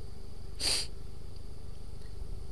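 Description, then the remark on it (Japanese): A boy gives a single short sniffle through the nose, a quick breathy hiss that stands out clearly against a quiet, faintly humming background, with no one talking. “そう言って鼻をすすりました。”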